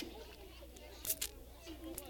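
The trigger of a spray bottle of water clicks a few times in quick, dry squeezes with no hiss of spray as nothing comes out, fairly quiet, with a faint voice murmuring in the background.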